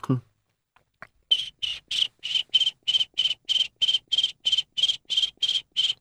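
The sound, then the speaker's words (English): A person imitates a cricket with their voice for use in a music recording, producing a steady series of about fifteen sharp, high-pitched chirps in a quick, even rhythm, fairly loud, after a brief breath at the start. “But I do play a small part, even if it's tinging a little cymbal or making, for example, my cricket noise, which I'll do for you.”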